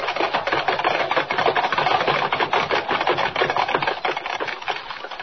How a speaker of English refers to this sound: Thundering hoofbeats echo through the crowd-lined street as the six white horses, suddenly gone wild, carry the swaying silver carriage to almost certain doom, while the thousands of people who only a moment ago were cheering wildly look on aghast.